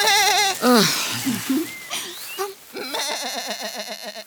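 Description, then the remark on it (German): A goat bleats several times in quick succession, wavering, quavering cries, fairly loud, ending with a longer trembling bleat, no voices alongside. “Komm, Ziege.”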